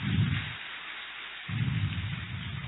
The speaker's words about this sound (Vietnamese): Và thời giờ này thì thầy đã hiện diện trên pháp tòa, đề nghị toàn thể các em cho một tràng pháo tay để chào đón thầy.